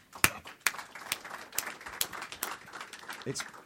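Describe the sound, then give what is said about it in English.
An audience claps steadily for several seconds, a dense patter of overlapping hand claps with a few sharper, louder claps standing out at the start. “Well, you know, you deserve a massive round of applause for that.”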